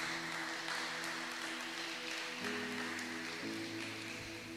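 An audience at a church service applauds for the Lord Jesus in a dense, steady wash of clapping that lasts throughout, with sustained keyboard chords ringing underneath and shifting pitch partway through.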